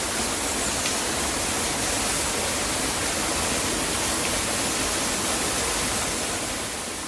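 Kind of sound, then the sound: nature, rushing waterfall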